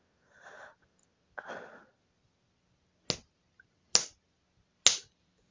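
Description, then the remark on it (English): Three sharp, crisp slaps on skin, given to the clitoris during a sexual act, land at an even, unhurried pace, each a short bright smack. Two soft, breathy exhales come before them, and no one speaks. “You like it when I slap your clit?”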